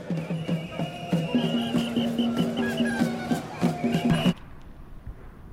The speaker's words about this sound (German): Zugvögel rasten auf dem Schwielochsee.